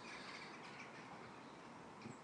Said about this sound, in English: Come the crows.